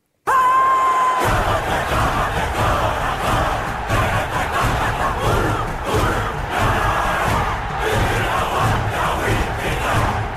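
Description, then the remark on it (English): A group of women loudly perform a haka on a street in Italy as part of an effort to sell a car, their forceful shouted chant pounding in a steady rhythm for about nine seconds, following a brief high tone at the start. “So this is performed by a bunch of women on a street in Italy to try and sell a car.”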